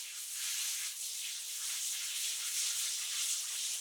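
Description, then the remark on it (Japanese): A shower sprays steadily, rinsing shampoo foam from hair with a bright, continuous hiss of falling water that swells slightly in places. No one speaks. “それでは泡を流しますね。”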